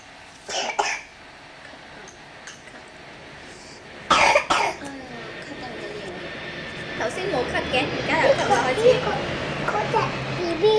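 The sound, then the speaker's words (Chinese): A child with a slight cold coughs twice, with a short cough near the start and a louder, harsher burst a few seconds later, followed by soft murmuring voices and household noise. “剛才沒咳 嗽， 現在又咳嗽了”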